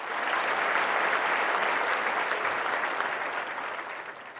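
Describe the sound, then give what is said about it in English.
An audience applauds Hugh steadily, a dense wash of many hands clapping that stays loud throughout and tapers off slightly toward the end, with no talking over it. “Let's give Hugh a round of applause.”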